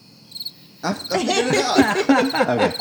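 cricket chirping sound effect

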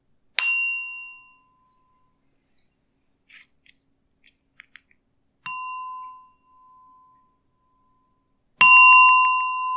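gong struck three times

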